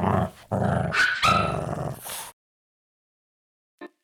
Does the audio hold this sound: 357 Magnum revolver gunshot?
no